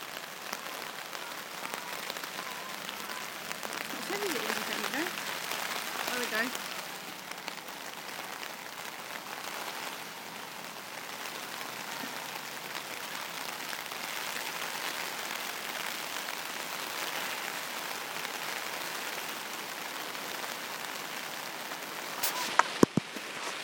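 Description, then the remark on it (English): Steady rain patters down continuously, a dense hiss of drops on a surface with a few louder taps near the end; no voices are heard. “So you're all okay, and I'll let you enjoy the rain.”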